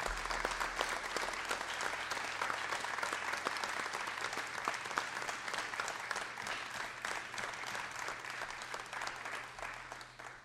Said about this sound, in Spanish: Así que yo quiero pedirles a ustedes y nosotros brindarle un fuerte y caluroso aplauso por los 80 años de esta hermosa radio.